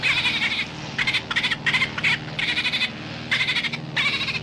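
A recording of dolphin language made for the Bonita Lab: a string of about nine raspy, buzzing bursts in an uneven rhythm, croaking and bleat-like over a low droning hum, with no one talking.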